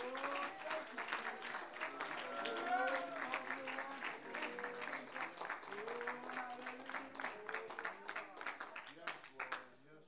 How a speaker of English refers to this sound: Oh, clap your hands and praise Him if you believe that.